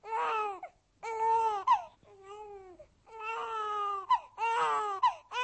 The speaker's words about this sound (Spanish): Y cuando oyó el llanto de su hijo, que había nacido en su ausencia, comprendió que había prometido entregar al diablo a su vástago.